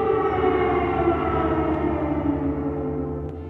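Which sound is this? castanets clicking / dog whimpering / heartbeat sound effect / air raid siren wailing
air raid siren wailing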